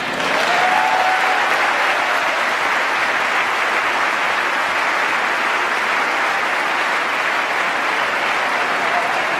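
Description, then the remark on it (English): A large crowd bursts into loud, sustained applause that holds steady throughout, a dense wall of clapping with scattered cheers and whoops mixed in, no speech. Members of Congress give a standing ovation during the Pope's address to a joint session of Congress. “This probably got the loudest cheer from Congress with standing ovation.”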